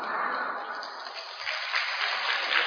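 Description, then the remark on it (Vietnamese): An audience claps in a steady, dense patter of many hands, moderately quiet and even throughout, with a slight swell near the end and no voices over it. “Vỗ tay cũng thấy nhỏ quá đi thôi.”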